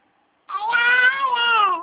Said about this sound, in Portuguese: É seu neném? É. Quantos meses? 9 e 1 dia. Nove? 9 meses e 1 dia.